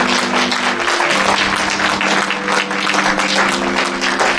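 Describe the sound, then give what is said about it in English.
A crowd applauds in praise after a prayer, steadily for several seconds, a dense, loud wash of many hands clapping at once, with a low sustained tone humming underneath. “I clap the praise.”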